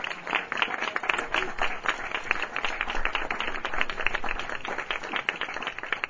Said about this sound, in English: Could we have a round of applause for them?